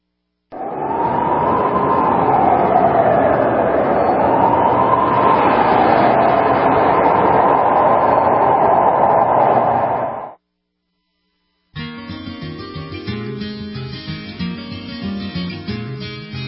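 A loud, steady roar of a train running on rails, with a wavering whine riding over the rumble for about ten seconds, then a sudden cut, a short silence, and a different tonal sound.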